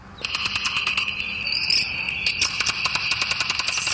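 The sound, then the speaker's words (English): Slowed-down European horseshoe bat calls, made as the bats leave their roost at night and repitched from ultrasonic by French scientists: a dense stream of rapid, steady-pitched high chirps overlapping one another, fairly loud, with no voices. “Those are bats, European horseshoe bats, calling out as they leave their roost at night.”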